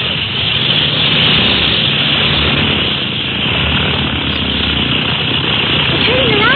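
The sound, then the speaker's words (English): A small propeller plane's engine roars loudly and steadily, a dense, continuous drone that holds at full power through the whole stretch as the plane takes off into the wind. “But your small plane as that can be brought right up to the float instead of them having to roll out.”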